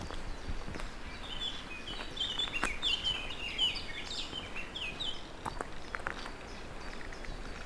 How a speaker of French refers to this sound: Et les oiseaux s'en donnent à cœur joie.